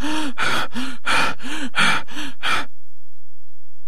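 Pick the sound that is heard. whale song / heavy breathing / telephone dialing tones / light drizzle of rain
heavy breathing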